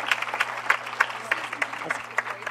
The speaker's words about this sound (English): So let's applaud the Lord for that. Amen.